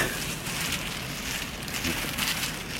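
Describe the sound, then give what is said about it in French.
A steady, dense patter of cocoa beans rattling and shifting as they are sorted, like rain on a surface, continuous throughout without any voices. “Ouais, un peu comme l'arbre à pluie.”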